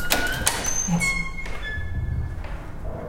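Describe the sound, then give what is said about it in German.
The old door of a villa is unlocked with a key and swung open: a few metallic clicks and clunks, then thin, drawn-out hinge squeaks over low thuds, with no talking. “Was für eine schöne Tür.”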